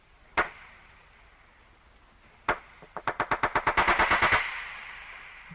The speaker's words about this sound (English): And those are just the sounds they make above the water. You will not believe what walruses sound like underwater.